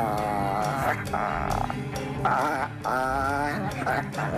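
A small dog howls in long, wavering, tuneful bursts over loud, dense music, its cries rising and falling in several close, sustained phrases.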